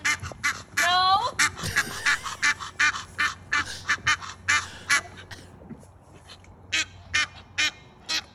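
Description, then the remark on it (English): Geese honk loudly in a rapid, overlapping series of harsh calls, several birds sounding off together for several seconds over a low background rumble, as children walk up to them and antagonize them. “They're antagonizing the geese.”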